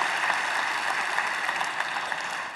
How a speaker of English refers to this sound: First, by way of Centerville, would you help me thank all of you that are here at Centerville, those that are sitting in the temporary seats? Would you just give them a round of applause for being willing to do that?